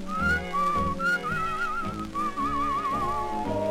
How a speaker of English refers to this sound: If you couldn't beg or borrow and thorny trails were all you knew, I'd greet every thorn and thistle with a cheerful little whistle.